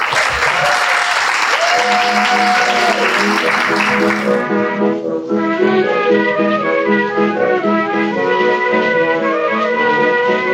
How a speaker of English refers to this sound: Thanks, folks. Not an enthusiastic round of applause there. I'm so sorry.